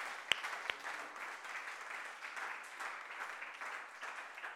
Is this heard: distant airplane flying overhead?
no